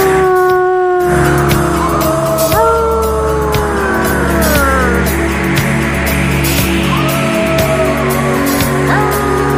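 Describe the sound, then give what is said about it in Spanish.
Several long, sliding wolf howls overlap in a loud chorus, rising and falling in pitch over a steady low rumble, with no talking. “Más lobo.”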